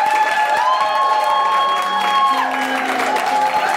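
A crowd applauds loudly and steadily at the close of the show Global Pillage, with cheers and a few whoops rising over the dense clapping, while sustained musical tones ring out underneath throughout.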